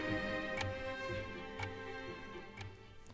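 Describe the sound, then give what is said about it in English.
A chess clock in a Spassky–Fischer game, from the documentary Bobby Fischer Against the World, ticks steadily as Fischer's time runs after Spassky's move, about once per second, each tick a soft crisp click over a sustained low, tonal hum. No one speaks. “You saw Spassky make his move, then he touched his clock, which turns his clock off, but turns his opponent's clock on. So Fisher's time is now ticking.”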